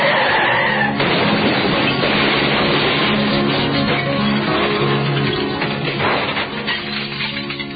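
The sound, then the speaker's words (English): Loud, sustained screech of car tires skidding, mixed with dense rumbling and clattering crash noise that runs for several seconds, chaotic, with no voices. “In the middle of a car crash.”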